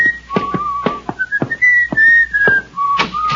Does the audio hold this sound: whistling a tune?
yes